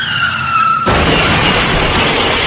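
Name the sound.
car skidding and crashing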